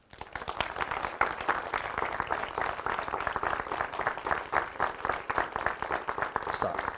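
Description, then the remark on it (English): A group of people clapping steadily for about seven seconds, the dense crackle of many hands gradually drifting toward a shared, unified rhythm. No one speaks over it. “What did you notice about their clapping?”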